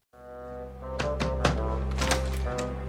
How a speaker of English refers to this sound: And so he's knocking on your door to see if you can help. Let's listen.